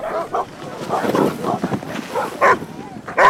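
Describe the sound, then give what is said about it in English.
Excited sled dogs bark and yip in quick, overlapping bursts at the start of the Arctic Wolf Relay race, the racket building to a couple of sharp, high yelps near the end. “Elijah's just confident in his dogs.”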